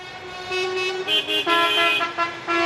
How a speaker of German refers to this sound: Es ist ein sehr emotionaler Tag, der mit dem Protest der Reisebusunternehmer am Olympiastadion beginnt. Laut Hupen geht es quer durch die Stadt Richtung Brandenburger Tor.